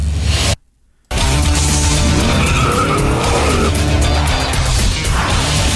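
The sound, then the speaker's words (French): A loud car engine roars with tires skidding and squealing, continuous, after a brief silent gap near the start; no talking. “Ouais, j'étais comme voiture, mais je pensais pas ça pantoute.”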